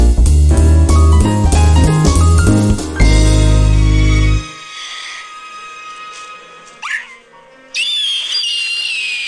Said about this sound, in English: Do you know what I thought is? It was going to be this. Yes, it's the eagle from Rescuers Down Under.